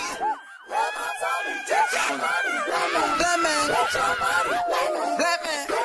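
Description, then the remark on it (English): Overlapping vocal cries, whoops, screams and laughter from several voices in the background of a music recording rise and fall in pitch, forming a continuous, fairly loud wash of excited shouting with bursts of laughter-like yelps throughout. “You know, these sort of cries and screams and laughter, and it's like, it makes me think of how you can't always tell whether those are cries of joy or cries of pain.”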